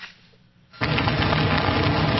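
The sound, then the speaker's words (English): Sleet hitting the ground in North Texas during the first big winter storm of the season: after a brief hush, a dense, steady crackling hiss starts abruptly and continues evenly at full loudness, a rough, motor-like rumble of countless tiny impacts with no voices. “What sounds like a motor running is sleet hitting the ground in North Texas.”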